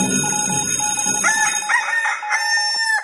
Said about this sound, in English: Good morning, early call time. Cock-a-doodle-doo.